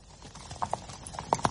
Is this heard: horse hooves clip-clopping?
yes